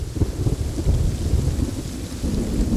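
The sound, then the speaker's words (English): Steady heavy rain pours down while deep, rolling thunder rumbles continuously underneath, loud, with no voices present. “So, why do birds avoid flying during rainstorms?”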